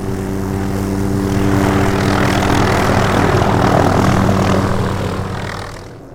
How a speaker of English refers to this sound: Off in the distance, a FWP pilot flies a small yellow plane in search of a pronghorn herd and radios in the location.